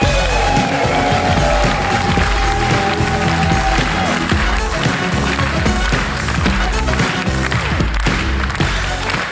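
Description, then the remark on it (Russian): Loud, sustained applause from an audience welcoming a comedian from Karachay-Cherkessia onto the stage, a dense steady roar of many hands clapping with faint whistles or cheers mixed in, and no one speaking over it. “Прямо сейчас, на этой сцене, прямиком из Карачаева-Черкесии, ваши аплодисменты, блистательный Тимур Джанкёзов.”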